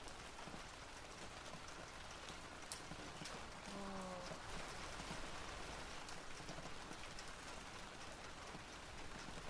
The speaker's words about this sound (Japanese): 雨止まないね。